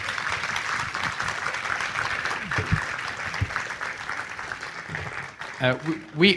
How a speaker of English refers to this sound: God has really blessed and used these guys over the summer, so let's give them a round of applause, I think would be good.